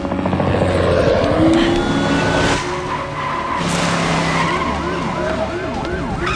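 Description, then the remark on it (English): A car's tires skid loudly as it makes a U-turn on a street, over a roaring engine. The screech is dense and sustained for the first couple of seconds, followed by continuing engine noise and warbling, rising-and-falling siren-like tones. “Driving in the opposite direction, Burns spots them running down the center of the street and skids into a U-turn.”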